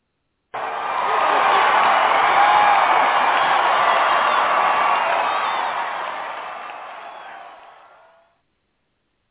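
A crowd cheers and applauds a guest brought to the stage, in a dense, steady roar with scattered whoops, holding loud for several seconds before gradually fading out.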